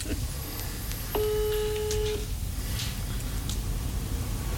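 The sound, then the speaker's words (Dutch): A single steady telephone dialing tone sounds for about a second as a phone call is placed, clear and electronic over a low background hiss, with a few faint higher chirps scattered around it. “Ik ga hem even bellen, kijken of hij... verras hem even met de telefoon.”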